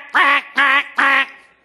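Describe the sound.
A duck quacks three times in a quick, evenly spaced series, each quack loud and nasal, with a short fading tail after the last one.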